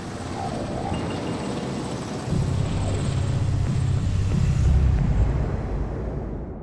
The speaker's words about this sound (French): Plusieurs dizaines de gendarmes de patrouille sillonnent les routes un peu du département, même voire à l'extérieur, et le survol de toute la région en hélicoptère.